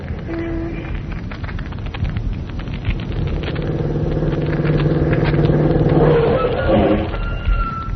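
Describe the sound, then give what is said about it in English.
A car engine turns over and settles into a low rumble, then revs louder as the car pulls away to drive to Quarry Road, its drone rising steadily. No voices, just heavy engine noise throughout. “Come on, hop in the car.”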